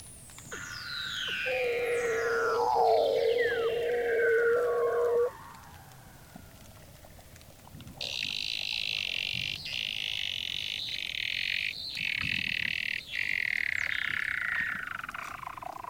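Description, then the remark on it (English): A male Weddell seal calls underwater below the frozen surface of the Ross Sea, Antarctica, hanging head down: long descending whistling trills sweeping from high to low, a steady mid-pitched tone, then a sustained high buzzing chirp series, loud and with no talking. “This is the voice of a Weddell seal, which I recorded below the frozen surface of the Ross Sea in Antarctica.”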